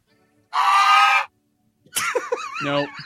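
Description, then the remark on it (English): A loud bird screech: one harsh, raspy cry lasting under a second, then after a short pause a wavering, warbling shriek that rises and falls before cutting off. “And I looked for bird screeches.”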